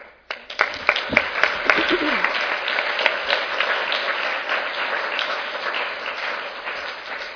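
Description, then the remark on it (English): An audience breaks into applause for the panelists: a few sharp separate claps at first, quickly swelling into steady, dense clapping that holds at an even level to the end, with no talking. “Please give me one more, join me in giving one more round of applause for our panelists.”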